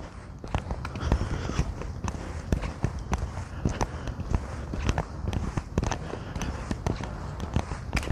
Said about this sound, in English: I have a squeaky boot. How amusing. So anyway, I'm back, I'm out, I'm walking.